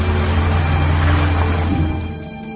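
A car speeding past close by, its engine a loud, steady roar with heavy road noise that holds for a couple of seconds before starting to fade away.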